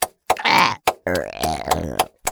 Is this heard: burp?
yes